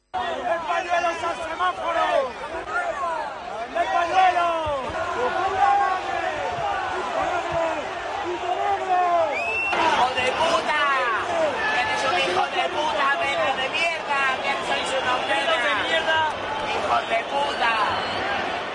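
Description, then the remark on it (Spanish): A loud football stadium crowd shouts and chants racist insults in a dense, overlapping roar of voices that holds steady for the whole stretch, with individual shouts rising and falling through the din. “que es lo mismo que ha dicho la Liga, que también denuncia, aparte de condenarlos, los gritos racistas. Yo creo que a uno se oye bastante bien.”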